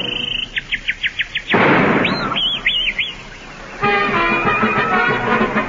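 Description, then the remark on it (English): A man whistles, imitating a bird: bright whistled bird-like calls, a quick run of rising chirps, then a few looping warbles, broken by a loud rushing burst, with sustained tonal sounds following at the end. “He pursed his lips and told sweet dreams, and then he whistled like a bird.”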